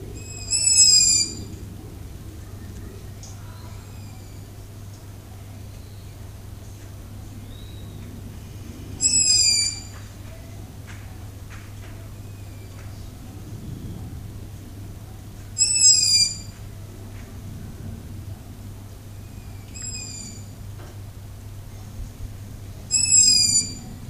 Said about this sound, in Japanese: キリがないので録音を中止します。以上、フクロウの声お届けいたしました。